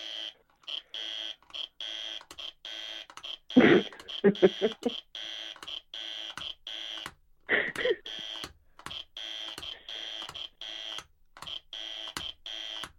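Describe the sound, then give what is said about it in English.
A harsh, buzzy wrong-answer buzzer blares over and over in choppy repeated bursts for several seconds, marking an incorrect quiz answer to a question about a Tube line, with brief voices talking and laughing over it partway through. “All right, I get the idea. It's incorrect answer.”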